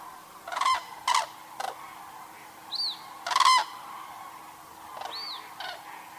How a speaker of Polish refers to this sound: jeszcze słychać też pisk. I ten pisk taki, to są pisklęta właśnie tegoroczne. Możemy właśnie usłyszeć, że w stadzie oprócz ptaków dorosłych właśnie są pisklęta po tym charakterystycznym takim pisku. Kilku ptasie grupki przelatują centralnie nad nami.